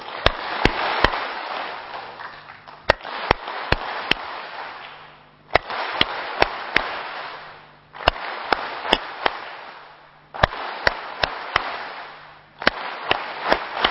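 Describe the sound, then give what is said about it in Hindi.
Sharp hand claps in repeated sets of four, evenly spaced and crisp, with short pauses between sets, over a steady wash of broad background noise that swells and fades; a concentration clapping exercise, counting one to four and then stopping. “अभी फिर से देखो वो एकाग्रता वाली ताली, कल 1 2 3 किया था ना, आज करेंगे 1 2 3 4 स्टॉप, ठीक है, मेरे साथ करना।”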